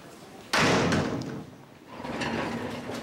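door slammed shut

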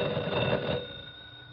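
telephone ringing

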